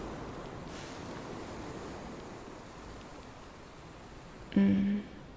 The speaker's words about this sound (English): It's so dark, but I love it. I love the ocean at night.